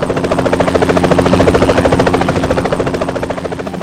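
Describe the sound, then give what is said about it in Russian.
A large black helicopter approaching along a river, its loud rotor beating in a fast, steady thudding rhythm over a deep engine rumble, with no voices, easing off only slightly at the very end. “Прищурившись, Маруся вглядывалась в вертолет, силясь разглядеть его, понять, чей он, откуда.”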